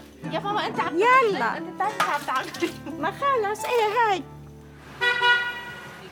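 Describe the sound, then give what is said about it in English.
Voices chatter amid street noise, then a car horn gives one steady, fairly loud honk lasting about a second near the end, in busy traffic in Beirut, Lebanon. “Too much traffic today.”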